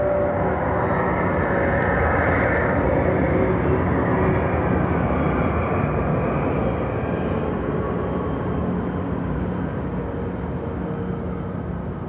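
A steady, broad roar of an airplane passing overhead, loud and continuous throughout with a slight swell early on and a gradual fade toward the end; no voices.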